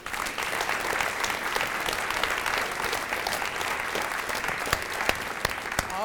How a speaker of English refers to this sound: Let's have one more round of applause for all seven of our storytellers.